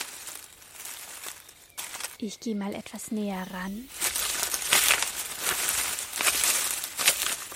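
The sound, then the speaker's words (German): A hedgehog rustles and crinkles through dry leaves, a steady scratchy shuffling that grows louder toward the end, with a man briefly speaking over it midway. “Das ist ja ein Erinaceidal. Ein Tier, dessen Vorfahren schon vor 50 Millionen Jahren gelebt haben.”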